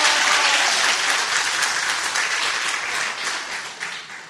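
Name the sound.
audience applauding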